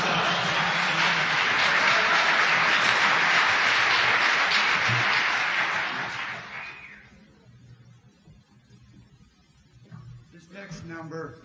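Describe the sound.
Sustained audience applause for the organist's footwork on a manual Rogers organ, a dense wash of many clapping hands, holds steady for several seconds and then fades out, followed by a quiet pause before a voice begins speaking.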